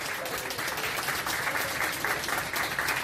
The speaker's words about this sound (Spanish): Bueno, estos aplausos...